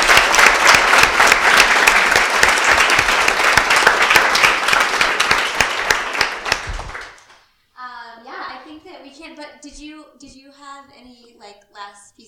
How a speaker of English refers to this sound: and so I want to just, like, give them a round of applause really quick, because you guys are awesome.